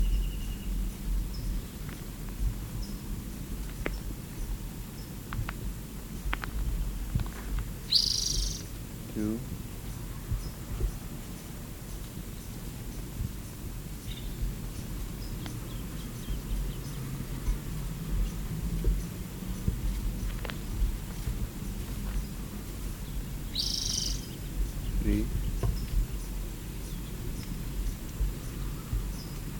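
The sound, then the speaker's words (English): A bird gives two short, high-pitched chip calls, one early and one late, over a steady low rumble with faint scattered ticks. “See the bird.”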